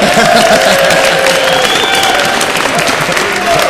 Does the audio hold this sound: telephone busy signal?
no